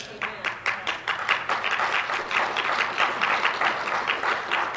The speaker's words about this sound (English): I think that deserved more than 6 people clapping.